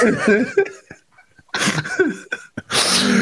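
A loud voiced burst, then a pause and a couple of harsh, breathy explosive bursts like sneezes, ending in a sustained hissing exhale.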